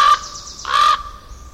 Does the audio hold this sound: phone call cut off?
no